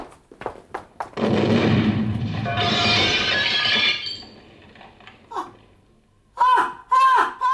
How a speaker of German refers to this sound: Kreischen erschreckte mich mehr als die Bombe.